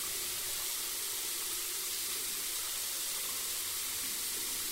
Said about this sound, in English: You're all standing in front of your sink, with water running at the same time.